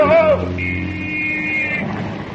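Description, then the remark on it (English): A car rushes past in a near miss, its engine droning loudly, with a brief falling whine at the start and a high, steady screeching tone held for about a second before the engine fades slightly. “look out for that car!”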